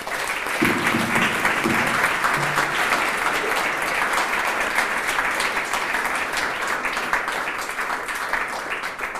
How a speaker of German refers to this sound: Ja, und nochmal einen ganz, ganz großen Applaus